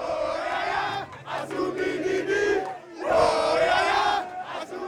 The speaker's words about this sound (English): pandemonium as the Leopards score their first goal in World Cup history. In the joyous mayhem, fans burst into spontaneous song and pour out onto the street.